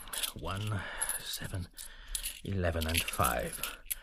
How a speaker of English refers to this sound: Stephen hands him all his coins.